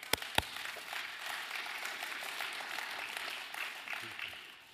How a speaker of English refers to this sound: was that loud when I clapped right there?